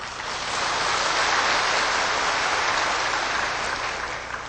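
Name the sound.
applause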